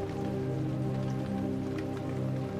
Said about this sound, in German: Vielleicht bleibst du noch einen Moment auf dem Sofa sitzen und hörst dem Regen zu.